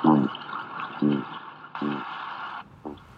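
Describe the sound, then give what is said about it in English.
Four short, low, throbbing grunts of Atlantic cod, recorded underwater in the northeast Arctic Ocean by Steve Simpson's team from the University of Exeter, sound at uneven intervals, each a brief buzzy pulse, over a constant hissing wash of ocean background noise. “This is cod grunting in the northeast Arctic Ocean. And now from the West Atlantic.”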